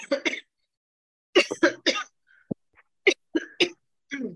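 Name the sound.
coughing fit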